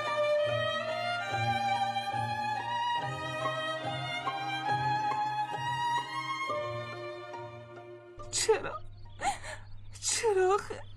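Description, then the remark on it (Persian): A woman, portraying Jane Austen, cries in short, shaky sobbing bursts near the end, following several seconds of soft sustained music that carries underneath. “عزیزم اقا گریه نکن، از وقتی از پیش جک آمدی داری یک سر گریه میکنی.”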